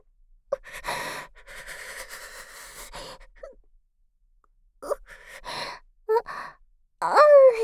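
Long, breathy hissing exhales from a woman give way, after a short silence, to several sharp voiced gasps with rising pitch as she holds back a sneeze and lets out an awkward, strained catch of breath.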